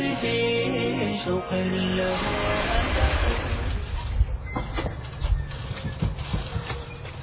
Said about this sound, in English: A few minutes later, Abdullah and Huda hear a car pulling into their driveway.